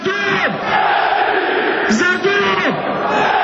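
A large stadium crowd at Maksimir Stadium in Croatia chants loudly in unison, answering former Croatia player Josip Šimunić's call "Za dom" with "spremni", many voices rising and falling together in sustained shouted phrases that fill the whole stretch without a break.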